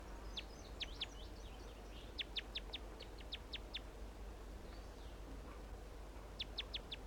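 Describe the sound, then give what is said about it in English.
A wild male bird, perched in a small sapling near a net, sings in bursts of sharp, high, rapid repeated notes, trilled series separated by short pauses, over a steady low background rumble. “Start recording the wild male again.”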